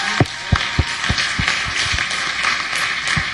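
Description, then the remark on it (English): A round of applause: many hands clapping in a dense, steady patter, with a few sharper individual claps standing out, and no voices. “Actually, give her a hand, round of applause right now.”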